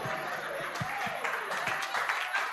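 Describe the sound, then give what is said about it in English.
An audience applauds for the Message Bible, a dense and steady wash of many hands clapping at once, fairly loud throughout, with a few sharper individual claps standing out and faint voices mixed in. “clap for the Message Bible. Clap for the Message Bible.”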